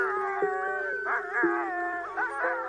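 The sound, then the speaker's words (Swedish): A pack of sled dogs from a Danish military sled patrol in Greenland howls together, several long wavering voices overlapping and rising and falling in pitch. The chorus is steady, with no one talking. “Ja, tuffare hundar och soldater är nog svårt att hitta.”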